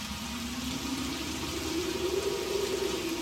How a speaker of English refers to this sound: The relentless downpour made its way down through the space between the leaves, soaking them to the skin. The fury of the wind and the lashing rain set them shivering in their scanty rags.